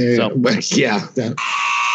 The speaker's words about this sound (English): Oh, well, all the buzzer works now, right,